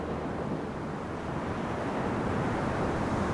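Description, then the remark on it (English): Steady roar of white-capped ocean surf breaking on Ocean Beach in San Francisco, at the end of Slope Boulevard, where waves have eaten away chunks of a parking lot; a dense continuous wash of noise with some wind buffeting, no distinct individual waves standing out. “especially here at the end of Slope Boulevard, where white-capped waves have eaten away large chunks of the parking lot.”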